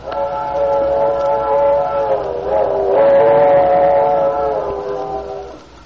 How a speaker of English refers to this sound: There's our whistle, Lefty. Yep, 7:15. Some engineer on that train.